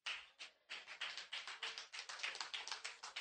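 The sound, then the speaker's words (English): An audience claps steadily, a dense run of sharp, bright hand claps with a pulsing rhythm after a brief pause near the start. No one speaks over it. “That side's clapping, this side's just kind of, go ahead.”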